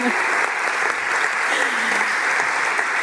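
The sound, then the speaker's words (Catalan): Steady, dense applause from an audience at the prize announcement of a music competition in Sitges, organised by the Associació Concertante and Sitges town council, for the singing category winner; a broad wash of many hands clapping at an even, loud level with no pauses. “Aplaudiu, aplaudiu.”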